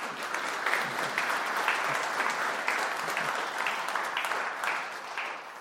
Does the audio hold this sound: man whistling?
no